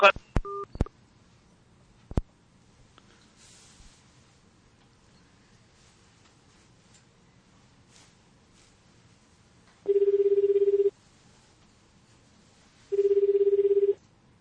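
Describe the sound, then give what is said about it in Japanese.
A telephone rings: after a few quick dialing beeps, two loud, steady electronic ring tones about three seconds apart stand out clearly against a quiet background. “わしの方の電話に してくれへん。”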